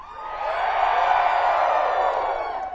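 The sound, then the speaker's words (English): An audience, told by a singer to scream out loud, hollers and hoots together in one loud, sustained burst that swells quickly and holds steady for about three seconds, a dense mass of raised voices with no clear words. “Where I come from, at best, that was hollering. Maybe more like hooting.”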